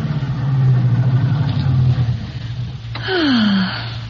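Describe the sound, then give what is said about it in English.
A convertible car's engine hums steadily, then its pitch drops as it slows down and settles to a low idle as the car pulls into a parking spot along a marina by a yacht harbor. “There's a place to park right up there. We can sit and watch the boats by the yacht harbor. Here, pull right in here”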